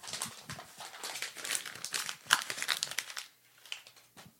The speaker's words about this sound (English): He just crumpled up his own birth certificate. I don't know why. I don't even know why you had that out.